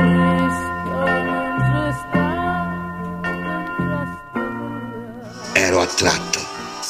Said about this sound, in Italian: Una campana